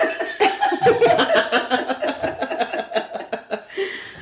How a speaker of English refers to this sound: Oh, no. Sorry, I coughed.